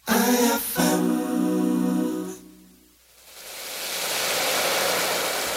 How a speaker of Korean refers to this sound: 양조장에서 쌀이 숨쉬는 소리.